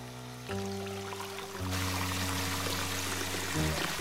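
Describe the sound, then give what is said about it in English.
Hot water pours steadily into a filling bubble bath, a continuous rushing splash with a hollow, rising tone as the tub fills, fairly loud, with no voices. “Now, we'll just give the bubbles a little time to work their scented magic.”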